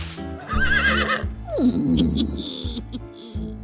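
A horse whinnies loudly, a wavering high neigh that drops into a lower snorting tail, with faint hoof clops and rustling around it.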